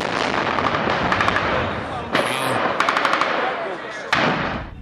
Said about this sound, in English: Attempts to move through the streets were stopped by sheer weight of fire. This was no skirmish going on. This piece of video shows armored vehicles and then a soldier firing a rocket-propelled grenade.